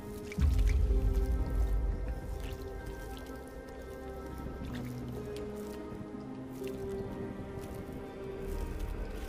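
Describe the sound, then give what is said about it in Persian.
Water drips and squelches in a steady, wet patter, with small droplets plinking into pooled, collecting liquid; a low rumble sits underneath, and no one speaks. “و جمع شدن آب نشونه بدیه.”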